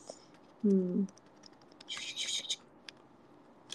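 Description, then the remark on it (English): A computer keyboard being handled: scattered soft clicks, then a brief rustling clatter of plastic keys. A short low voiced hum sounds near the start. “It's naked! My keyboard is naked!”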